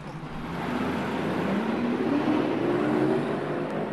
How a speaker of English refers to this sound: As the bus pulled away, I went back into